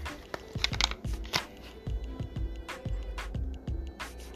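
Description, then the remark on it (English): Liquid glugs out of a bottle into a shot glass as a shot is poured, in a steady run of about eight low, gulping pulses, with light crackly splashing between them and no voices. “Hold up, get my shot glass. I'm going to pour a shot.”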